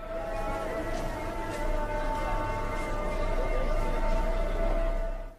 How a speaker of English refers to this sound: So here's a recording of a market in Morocco.